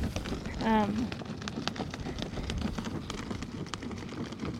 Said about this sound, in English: But do you hear that? That crackling? So that crackling sound is the sound of water moving through the siphons.